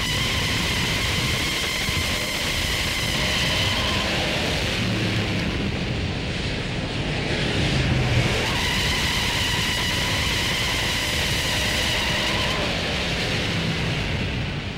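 A sustained car burnout, launched in second gear with a slipping clutch: a steady, loud roar of tire hiss and engine noise running unbroken for about fifteen seconds, with faint squealing tones wavering above the noise. No one speaks.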